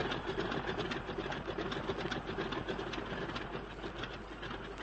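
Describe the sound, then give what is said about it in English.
A stone-cold engine starts up and revs, running steadily with a rapid, rhythmic mechanical chatter, fairly loud, holding an even level throughout with no voices. “Don't waste time revving.”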